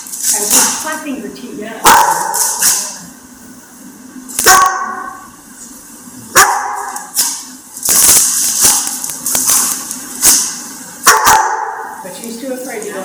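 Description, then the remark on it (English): A dog barks and yips playfully, with sharp irregular bursts scattered throughout and softer whining, whimpering sounds in between. “I mean, admittedly, my dog is really happy about it.”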